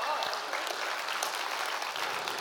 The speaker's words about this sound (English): You should be clapping for her because she's put up with me for all this time.